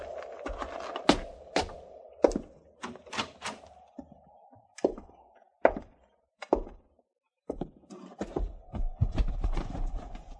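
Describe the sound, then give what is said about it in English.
Irregular hoof clops from horses moving about, sharp knocking steps scattered over ten seconds with a low rumbling background and no talking. “Hobble them horses and get up there.”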